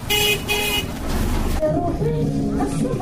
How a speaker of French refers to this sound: Au marché de kilomètre 5, la circulation est dense.